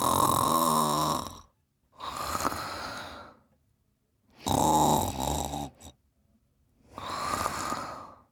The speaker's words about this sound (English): They both waited to see if their mom would wake up. But surprisingly, she did not stir. They could still hear in the distance her snoring.